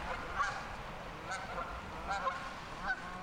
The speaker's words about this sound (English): look at the geese.